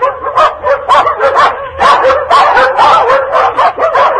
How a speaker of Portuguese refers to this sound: Dali a instantes, ouviu-se ao longe os latidos da matilha que vinha de corrida feita.